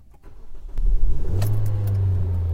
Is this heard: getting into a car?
yes